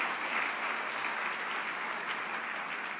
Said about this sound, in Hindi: जोरदार तालियों से इनका स्वागत करेंगे।